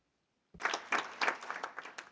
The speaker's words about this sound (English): Moreover, I think we need to give a round of applause to the head office in Geneva, to the staff, our colleagues over there, who have been watching over our sessions.